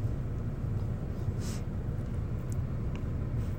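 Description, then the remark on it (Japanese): Steady low rumble fills the inside of a car parked at a nearby convenience store, a constant muffled hum with faint hiss above it and no voices, even in level throughout. “で、今も近くのコンビニに車止めて、今、録音してるところです。”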